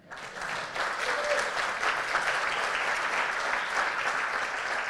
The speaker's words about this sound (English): Okay, now you can clap.